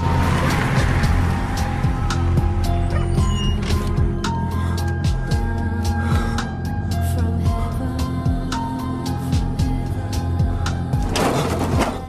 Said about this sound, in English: parks his car in the deserted street and leans his head on the steering wheel.